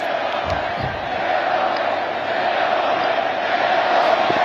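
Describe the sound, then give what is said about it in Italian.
A huge outdoor crowd in a square roars and chants "Leone, Leone" for Pope Leo XIV in one steady, loud wall of massed voices, holding its intensity for the whole stretch, with no single speaker standing out. “Leone, Leone, ha gridato la folla”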